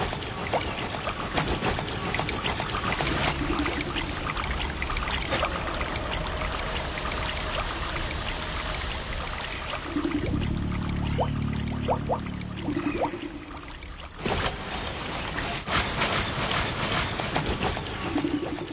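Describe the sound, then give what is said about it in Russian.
A steady wash of rushing, churning Baltic Sea surf, loud and continuous, with a low droning hum that swells briefly near the middle before the water noise carries on alone; a composed piece by a Swedish composer woven from the surf. “Давайте послушаем работу шведского композитора Тони Сведберга, работу, сотканную из шума прибоя Балтийского моря.”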